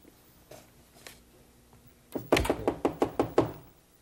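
Knocking on a back door: a couple of soft, spaced taps, then a quick run of about seven loud raps in a steady rhythm. No voices.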